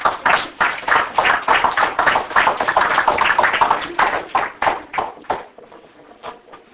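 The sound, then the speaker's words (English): A church audience gives the Lord a hand clap during a sermon, a dense, overlapping burst of applause that stays loud for several seconds, then thins out into a few scattered claps before fading. “Give the Lord a hand clap if you do.”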